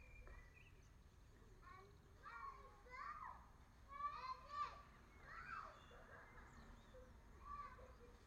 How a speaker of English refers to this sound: There's children playing outside in the street this morning, and it's quite nice to hear them. It must be a lovely day out there. So if you can catch that noise, that's what it is.